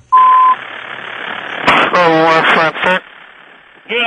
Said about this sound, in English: Do we have that tape? I can hear the police beep.